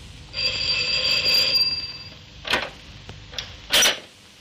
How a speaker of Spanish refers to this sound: Ambos frente a la puerta de Anaís. El de la gabardina pulsa el timbre.